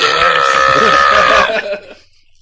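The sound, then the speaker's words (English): A loud, drawn-out burp rumbles for about a second and a half, then trails off into quiet. “I know, you totally burped. You burped.”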